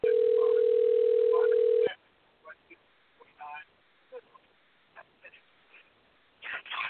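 A single long, steady ring tone on an outgoing phone call to Steve Austin during a show, loud and even for about two seconds, then cutting off into faint clicks, rustles and line noise.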